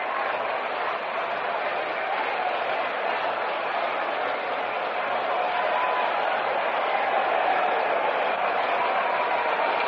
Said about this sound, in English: The applause you hear below us greets the departure of the former president, Herbert Hoover.